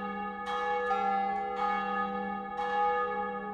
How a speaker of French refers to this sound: Alors, les cloches de la petite église nichée au bout de la rue se mirent à sonner à toute volée.